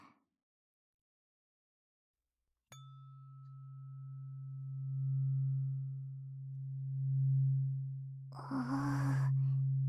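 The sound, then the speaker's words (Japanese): An ear-cleaning tool, which uses sound to vibrate inside the ear and loosen earwax, gives a low, steady buzzing vibration that starts abruptly after a silent stretch, holding one deep pitch while slowly swelling louder and softer, then a breathy rush of sound joins at the end. “ブーンってするね。音で耳の中までブルブル震えて耳垢取れやすくするよ。”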